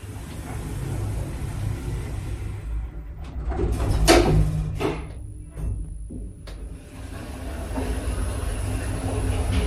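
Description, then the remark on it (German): An elevator door slides shut over a low mechanical rumble, ending in a couple of sharp clunks, followed by a steady high whine and continuous hum of the car. “Tür schließt.”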